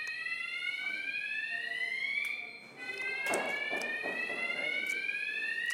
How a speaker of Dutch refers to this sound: En toen ging het brandalarm af.